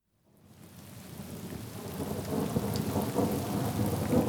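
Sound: wind and heavy rain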